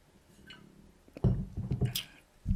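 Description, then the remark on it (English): Someone takes a quiet sip of water, a short cluster of soft wet slurping and swallowing noises after a moment of near silence, with no talking. “Take a little sip of water.”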